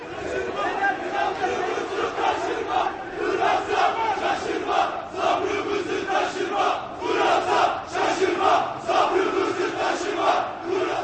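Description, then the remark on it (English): Hundreds of right-wing nationalist protesters march arm in arm up Istanbul's main shopping street in the city center, chanting "Our patience is ending" in unison, loud rhythmic shouts rising and falling in waves over a continuous roar of many voices. “With arms linked, hundreds of right-wing nationalist protesters marched up Istanbul's main shopping street in the city center. Chanting the ominous warning, "Our patience is ending," the protesters frightened some shoppers who darted into shops”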